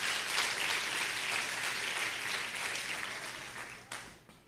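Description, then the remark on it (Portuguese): An audience claps for Jesus during a sermon in a dense, steady wash of applause that stays strong for several seconds, then thins and fades out near the end, with no voices heard. “Quer aplaudir? Pode aplaudir a ele.”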